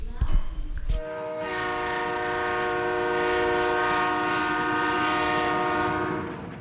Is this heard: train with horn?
yes